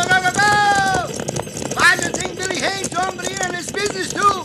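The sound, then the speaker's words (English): A cattle herd on the move, driven by riders on horseback trying to turn the herd: loud, overlapping bawls and calls ring out over a steady, busy clatter of hooves, continuous throughout. “Right now, our job is to turn the herd.”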